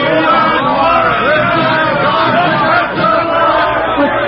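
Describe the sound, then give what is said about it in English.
A crowd of 97 people cheers and shouts continuously outdoors on a college faculty row, cheering for a professor; a dense, steady roar of many voices with no pauses. “Well, they seem to be cheering for your Professor.”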